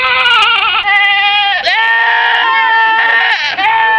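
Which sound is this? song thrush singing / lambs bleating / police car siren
lambs bleating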